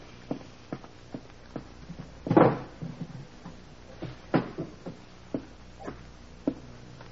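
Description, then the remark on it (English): An inspector opens the top middle drawer of a wooden desk, which scrapes open with a short rumbling slide, then a second thump follows, amid scattered light footsteps and small knocks. No one speaks. “In the top middle drawer of my desk. Inspector, will you see if it's there?”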